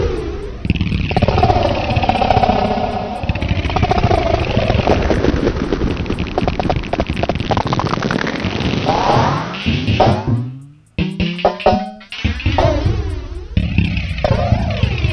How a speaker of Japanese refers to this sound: という、もはやちょっとよくわかんない感じになるんですが、元音がもうわかんないですよね。元がドラムとは思えない感じで。まあ、これがリバーブ効果です。